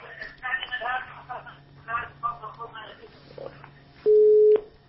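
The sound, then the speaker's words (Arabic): Muffled, overlapping voices with a low hum underneath, then near the end a loud, steady electronic telephone busy tone sounds for about half a second as a caller's phone line from Riyadh to a TV call-in program disconnects. “فصلت التلفون، ما تسمعون كلام، انا قصروا على التلفزيون واسمعوني من الهاتف حتى يكون يعني الصوت واضح.”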